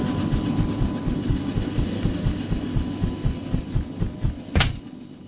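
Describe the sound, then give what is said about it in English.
A transport helicopter engine drones steadily as someone climbs down a rope out of it, with rapid, rhythmic low thumps from the rotors running throughout and a brief louder whoosh near the end. No one speaks. “Let me just climb down the rope out of our trusty transport chopper here, and we'll start the hunt.”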